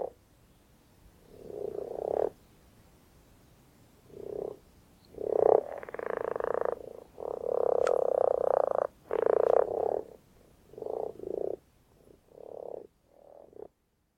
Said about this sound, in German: Man geht oft auch nachts, weil viele von denen hört man vor allem, weil sie rufen, also trillern, rufen, pfeifen, je nachdem, das hängt ein bisschen von der Art ab, quaken.